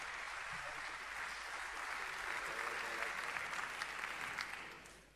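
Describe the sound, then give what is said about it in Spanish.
Steady applause from an audience for a band being introduced, a dense wash of many hands clapping at an even, sustained level for several seconds before tapering slightly at the end. “Así que les pido un fuerte aplauso, porque si venimos de la máquina de ser feliz, ahora van a ver lo que es bueno.”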